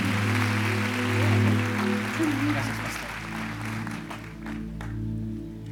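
A church audience applauds with dense, steady clapping that lasts several seconds and gradually thins toward the end, while a low sustained tone hums underneath. The applause welcomes two people who are about to share a testimony.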